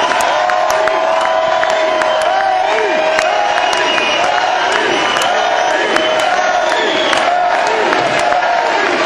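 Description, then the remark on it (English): A large crowd at the end of a concert cheers and roars wildly without letup as the band slaps hands and thanks everybody, a dense wash of shouts, whistles and scattered clapping, loud and even from start to finish. “Slapping hands, thanking everybody, and the crowd's still going crazy.”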